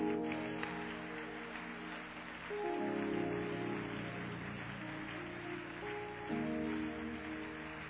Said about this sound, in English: Now clap your hands to the Lord before you're seated.